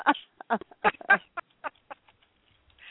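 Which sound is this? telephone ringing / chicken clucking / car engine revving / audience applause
chicken clucking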